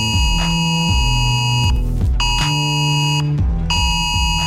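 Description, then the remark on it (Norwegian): A loud, harsh mobile phone emergency alert tone, sounded during a test of the emergency alert system, blares in repeating bursts of about a second and a half, with short gaps between them, over a low droning pulse, with no voices present. “I dag ska nämligen nödvarsle testas. Det betyder att både nödvarsle på mobil och varslingsanlägget till civilförsvaret kommer att lage en del ljud.”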